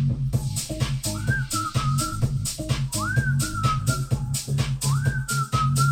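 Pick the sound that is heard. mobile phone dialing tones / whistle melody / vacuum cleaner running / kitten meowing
whistle melody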